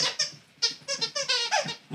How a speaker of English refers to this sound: You're going to wind up hearing Paco every once in a while squeaking at toys.